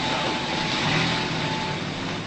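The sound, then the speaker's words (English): A car drives away, its engine a steady, fairly loud rumble and road hiss that holds for a couple of seconds and eases only slightly at the end; no one speaks. “They drive away.”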